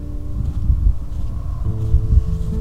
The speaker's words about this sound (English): It is windy out here.